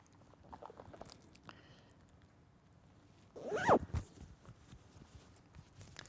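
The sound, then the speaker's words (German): A zipper is pulled up on a pullover in one quick rising zip of under a second, preceded and followed by soft rustling of fabric; no one speaks. “Hier ist nämlich die Fenster offen und ich muss tatsächlich meinen Pulli jetzt anziehen, weil wir gerade die Wärme zum Fenster rausschicken.”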